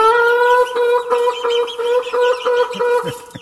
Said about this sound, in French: Vous êtes qui, vous? Une poule? Oui, je vois bien, vous êtes une poule. Mais une poule avec un sac à dos?